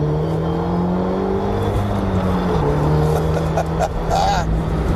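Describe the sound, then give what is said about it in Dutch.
A Renault Megane RS Trophy R hot hatchback's engine runs with a steady, droning hum and a slight dip in pitch midway, holding at an even, fairly loud level throughout with faint background noise. “Renault zelf beschrijft hem als de auto voor de circuitliefhebber die ook echt kan rijden.”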